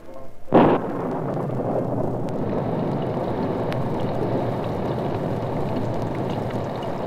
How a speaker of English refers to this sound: Outside the roadhouse, a steady downpour covered the black beauty as Brett Reed and Cato waited in the rain-drenched darkness.